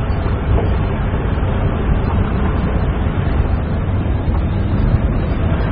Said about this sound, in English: Here, now, riding in this car, feeling the sun on my face. I can't remember the last time I was able to travel so freely in the light of day.